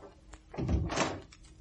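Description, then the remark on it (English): A door swings shut with a low, heavy thunk followed by a brief rattling clatter as it settles into the frame, moderately loud and with no voices. “The instant he heard the door, the man below ran lightly up the stairs and waited in the shadow of a landing just above Trevelyan's flat.”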